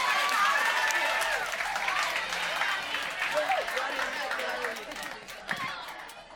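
A crowd at a live show applauds an audience member brought on stage, clapping steadily for several seconds in a dense wash with a few whoops and cheers rising over it, then tapering slightly toward the end.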